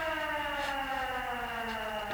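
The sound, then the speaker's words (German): A house alarm siren at Miranda Kramer's house wails steadily, its loud, harmonic-rich tone holding a constant pitch with slight wavering throughout, with no voices heard. “Wir sind hierher gekommen, weil wir den Alarm von Miranda Kramers Haus ausgehört haben.”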